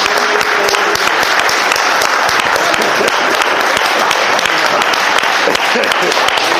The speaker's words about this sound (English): Give a mighty clap to Jesus.